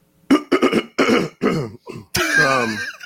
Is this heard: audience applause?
no